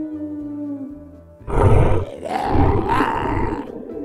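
A few low musical notes give way to a loud, rumbling growl-roar of the grandmother's nightmare monster in a told story, swelling in two or three heavy surges, deep and rough, with no talking.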